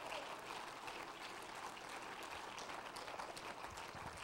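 An audience at a worship service clapping their hands together in praise of God, a dense, steady wash of many overlapping claps that holds at an even, fairly loud level throughout, with no voices standing out.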